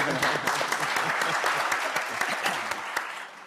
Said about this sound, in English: So round of applause